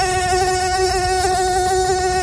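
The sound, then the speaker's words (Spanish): A steady, high-pitched mosquito buzz drones on without a break, fairly loud, whining right beside the ear. No one speaks over it. “¿Cuántas veces te has despertado con este zumbido clavado en el tímpano de tu oído?”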